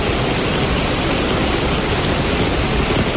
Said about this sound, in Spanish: Lluvia, mucha lluvia, eso es lo que ha marcado esta Semana Santa.